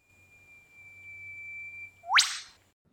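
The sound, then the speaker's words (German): A whipbird call: a long, pure, steady whistle held for about two seconds, then a sharp rising whip-crack snap that sweeps upward and cuts off, with a faint low hum underneath. “Das war jetzt der Ruf des Whipbirds, wörtlich übersetzt, also Peitschenvogel, weil so ein Ruf eben so klingt wie so eine Peitsche.”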